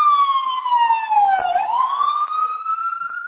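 A loud New York FDNY emergency vehicle siren wails, heard over a phone call, its pitch sweeping down then rising again as it passes. The tone is sustained and piercing, with no voices heard.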